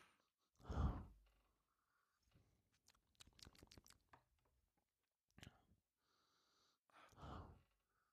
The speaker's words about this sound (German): Bisschen schnüffeln und schnaufen auf der Aufnahme macht sich immer gut.